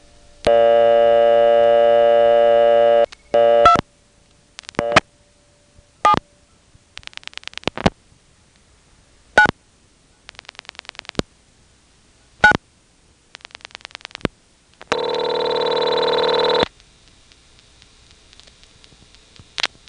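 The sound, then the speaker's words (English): A telephone line in a small office rings in long buzzing tones, the second ring sounding noticeably different in quality from the first as another incoming call is rung off the same ring supply, with sharp clicks and soft mechanical ticking scattered in between. “You know, as it rings and rings, you'll occasionally hear the quality of the ring change as another incoming call is being rung off the same ring supply.”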